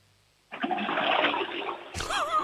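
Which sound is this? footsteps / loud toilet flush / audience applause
loud toilet flush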